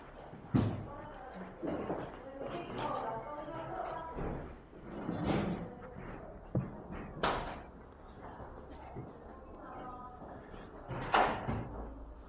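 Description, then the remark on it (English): A door swings shut with a solid thud amid a few other bumps and knocks, while people talk in the room around it. “Should we just close the door?”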